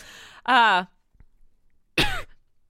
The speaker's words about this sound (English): sorry, I coughed. Don't dang cough it. During our podcast.